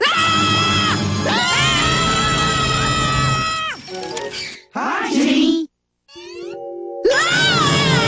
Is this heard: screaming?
yes